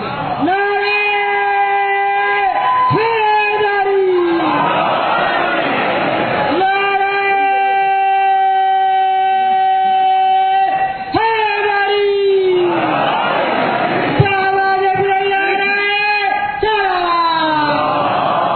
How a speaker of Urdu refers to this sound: نعرہ بھی میری ضرورت ہے, اس لیے کہ میرے علی کا نام ہے نعرے میں.